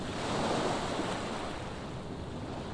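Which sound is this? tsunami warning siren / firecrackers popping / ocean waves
ocean waves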